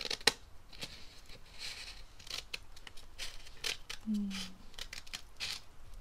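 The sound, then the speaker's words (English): Scissors slicing through paper in a series of crisp snips and longer swishing cuts, with a brief low tone partway through and no talking. “I like the sound of paper being cut, but I don't like the sound of paper getting crinkled.”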